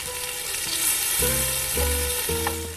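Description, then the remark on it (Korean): Lamb ribs and black pork sizzle steadily on a hot grill while camping in Gapyeong, a dense crackling hiss that runs throughout, with a few low tonal hums swelling in and out underneath. No one speaks. “자, 그럼 이제 고기 한번 구워볼까?”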